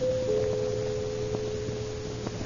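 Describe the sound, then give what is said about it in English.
A doorbell buzzes in one long, steady tone for about two seconds at 2 o'clock in the morning, fairly quiet against a low background hum, with no voices. “What do you mean by coming to the room and ringing the bell at 2 o'clock in the morning?”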